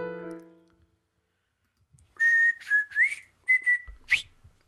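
A person whistles a short, bright tune in a quick series of clear notes, with slight breaths between phrases, after a brief musical tone fades out at the start.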